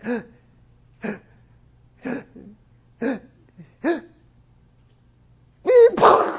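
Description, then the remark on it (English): A voice imitates the gasping of a dying person: five short, sharp gasps spaced about a second apart, followed by a louder, rougher breathy burst at the end. “So that's called gasping. And it's really a sign that person is about to die.”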